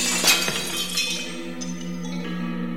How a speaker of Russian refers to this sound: Граф испугался, повернулся, задел хозяина железной тростью. Стеклянный человек упал на землю и разбился.